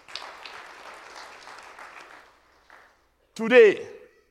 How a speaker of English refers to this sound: Let us give ourselves a round of applause for this support.